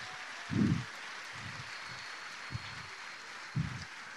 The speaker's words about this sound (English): Clap your hands, give Jesus Christ. Aplauda Jesus. Dá glória a Deus.